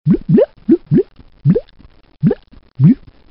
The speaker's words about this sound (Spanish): ¿Cuál es el sonido que hacen los peces bajo el agua? ¿Se parece a este?